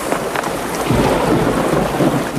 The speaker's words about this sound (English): The wind rips the hood off, leaving the Squire and John exposed to the lashing rain.